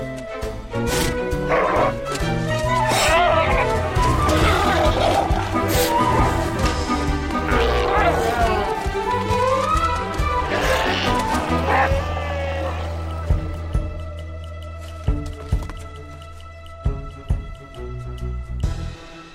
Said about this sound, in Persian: ولی حالا همه شیرهای دریایی بلند شدند. از بین آنها رد شدن نیاز به مهارت دارد.